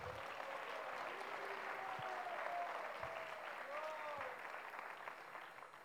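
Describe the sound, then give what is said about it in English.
A crowd at a gathering of devotees applauds steadily for several seconds for the people organizing the event. A dense, continuous patter of many hands clapping at once, fairly loud and sustained, with faint voices briefly audible beneath it. “An applause for them.”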